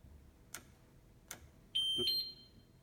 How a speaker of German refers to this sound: Die Maschine meldet sich, ist jetzt bereit. Sie hören auch das Klicken auf dem Drehwahlschalter.